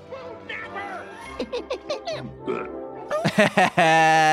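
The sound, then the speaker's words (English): A voice imitates clumsy, childlike belching: a string of short, forced gulping grunts, then a few quick croaks and a longer, louder strained burp at the end, dry. “Belching like a kid who doesn't know how to belch.”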